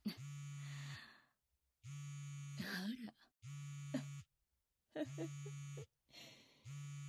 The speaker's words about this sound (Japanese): こんな時に電話かよ。